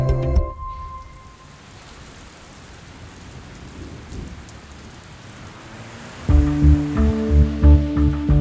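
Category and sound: nature, rain falling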